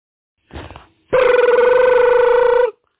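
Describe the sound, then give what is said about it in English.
A short rustling burst, then a telephone ringing: one loud, steady electronic warble with a buzzy, slightly trilling tone that lasts about a second and a half before cutting off. No one speaks. “Hey, man, you can get your phone.”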